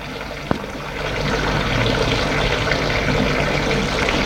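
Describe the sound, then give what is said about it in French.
A faucet squeaks open with a sharp click, then a steady stream of tap water pours continuously into a bathroom sink, moderately loud, with no voices. “Ouvre l'eau du lavabo.”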